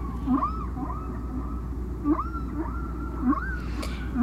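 Distant whale song from track 4, side A, of a record: a repeating pattern of short upswept cries and longer rising moans, recurring roughly every second, faint and echoing over a steady low rumble of ocean noise.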